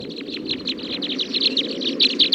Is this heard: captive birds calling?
yes